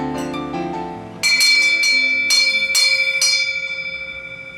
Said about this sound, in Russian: Например, целая коллекция поддужных колокольчиков.